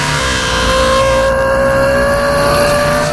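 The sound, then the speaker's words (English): A powerful Ferrari sports car engine revs loudly and steadily, a sustained high-pitched whine with a throaty rumble beneath, holding its roar for a few seconds with no voices. “She imagined Dr. Big Love revving his Ferrari engine.”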